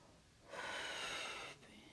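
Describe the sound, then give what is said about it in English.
A baby breathing in its mother's arms as she coaches it to breathe in and out: one soft, airy rush of breath lasting about a second, a breathy hiss rising out of quiet background and then falling away. “Keep breathing in and out for mama.”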